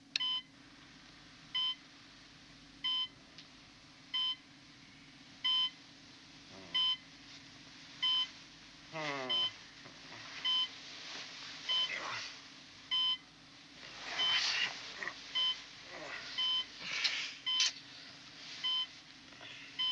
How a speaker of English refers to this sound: Good day. This is your alarm call. Duty period commences in 30 minutes. Thank you.